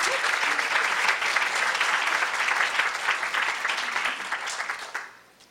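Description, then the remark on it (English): A crowd applauds steadily for speakers being introduced, a dense wash of many hands clapping at once, holding loud for about four seconds before thinning out and fading away. “So let's give them a round of applause, and then go ahead.”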